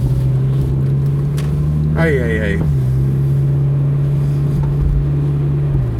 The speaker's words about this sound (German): 31 Grad zeigt das Thermometer im Auto an. Deshalb muss ich euch schon wieder mit Nebengeräuschen nerven, weil ich bei offenem Fenster fahre. Ich mache mich jetzt auf dem Rückweg von der Arbeit.